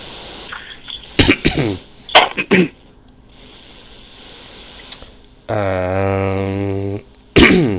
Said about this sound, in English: I apologize, people, for all the stammering and coughing. The times when I don't talk for a few seconds, it's because I'm trying to swallow a cough.